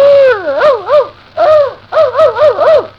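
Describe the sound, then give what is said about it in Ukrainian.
A man imitates a dog, letting out loud yelps and whining barks in three wavering bursts separated by brief pauses. “За кожне собако слово 10 копійок. І як гавкнув, так і гривенник.”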